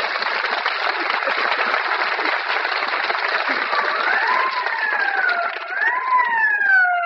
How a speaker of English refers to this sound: I wonder who the ambulance is for.